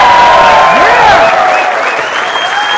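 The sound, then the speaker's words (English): A large crowd claps loudly in a dense, steady roar of applause, with high whoops and cheering voices rising over it throughout. “Can everybody real quick clap really, really, really loud?”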